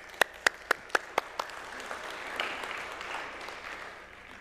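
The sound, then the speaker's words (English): A handful of sharp, evenly spaced claps ring out first, then blend into a steady wash of audience applause for the deacons and deaconesses being introduced, holding at moderate volume for a few seconds. “You can clap.”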